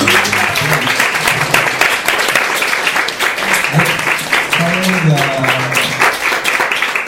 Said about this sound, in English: Thank you. Yeah. Could we have one more round of applause?